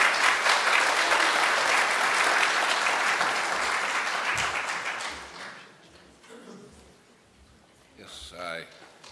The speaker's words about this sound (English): We would just like to welcome him to the podium this morning. Would you give him a big hand clap? Thank you.